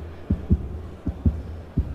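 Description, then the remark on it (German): A mock heartbeat made by snapping a leather cloth: three low, muffled double thumps in a steady lub-dub rhythm, fairly soft, with no talking. “Oder man macht Herzschlag.”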